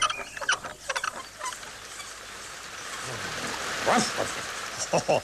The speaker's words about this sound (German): Es gibt ja auch nur einen klitzekleinen Platzregen auf Moppis Kopf.